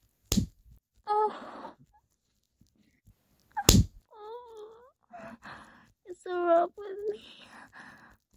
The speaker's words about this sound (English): Keep slapping my ass like that, puppy. I love being spanked.